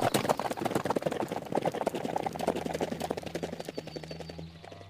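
Steady clip-clop of hooves as horses are ridden off over hard ground, a dense run of quick percussive hits that gradually fade as the horses move away, with a low rumble underneath and no speech.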